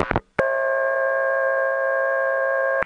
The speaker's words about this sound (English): But to my ears, they were so different that when I first heard that special dial tone on Neil's 660, I didn't even realize that that was meant to be the same tone as what I got when I left my phone off the hook.